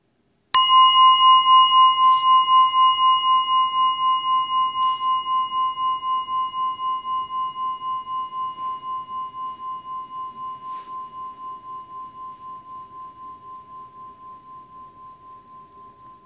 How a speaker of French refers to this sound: Et pour cela, je vais inviter un son de cloche. Et je vous invite à vraiment entendre ce son.